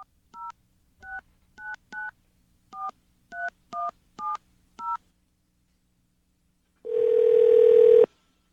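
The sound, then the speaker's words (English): A phone number being dialed for a call to Jack Horner: about ten crisp touch-tone beeps in an uneven rhythm, followed after a short pause by a single longer, buzzy tone. Clear, with no voices. “Thousands of views on YouTube, and some of the world's leading scientists have played and talked about this phone call.”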